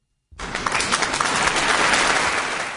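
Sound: audience applause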